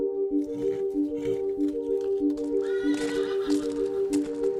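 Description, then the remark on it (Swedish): A horse whinnies at a horse farm in Leksand, Dalarna, in a sustained, wavering call with strong tonal harmonics, steady throughout, over faint rustling background noise. No one speaks. “En hästgård i Leksand, Dalarna.”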